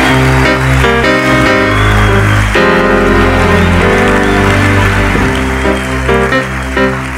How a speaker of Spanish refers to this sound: Dale un aplauso fuerte a Dios esta noche.